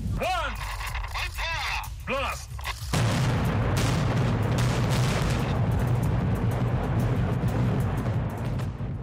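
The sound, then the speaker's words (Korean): A brief voice, then a sudden loud demolition blast about three seconds in that turns into a heavy, continuous roaring rumble of debris lasting to the end, as North Korea blows up tunnels 2, 3 and 4 and related buildings at the Punggye-ri nuclear test site on May 24. “네, 지난 5월 24일 북한이 풍계리 핵실험장을 폭발했습니다.”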